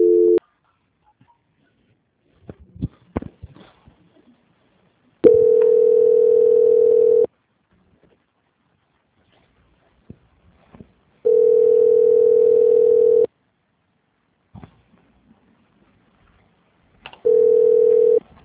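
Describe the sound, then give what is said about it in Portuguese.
A telephone line tone while a call is transferred to a quality department: three steady, two-second tones sound at even intervals with quiet gaps between, broken only by a few faint clicks. No one speaks. “Nesse momento, você está caminhando a sua ligação para a central de qualidade para prosseguirmos com as confirmações.”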